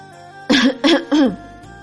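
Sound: dry cough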